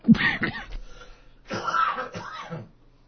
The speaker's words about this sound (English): Excuse me, I'm having a coughing jag here, and I don't know why.